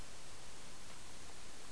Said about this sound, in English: Oh, you hear that water?